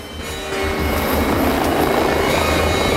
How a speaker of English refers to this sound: A camouflaged chopper passes over a parched rocky landscape. It flies over a ledge, drops altitude, then follows a snaking river through a gully.